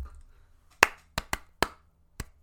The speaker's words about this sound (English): clap, clap, clap, clap, clap.